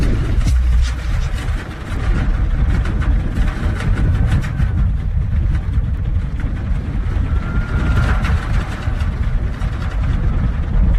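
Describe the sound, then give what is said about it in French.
A deep, steady rumble of the large main building of a former stainless-steel works, where stainless steel was made until 2004, vibrating in the wind, loud and unbroken, with a rattling metallic texture over the low drone. No one speaks. “Le bâtiment principal dont vous parliez, c'est celui qu'on entend là, qui vibre avec voilà. Le vent, là, c'est celui-là.”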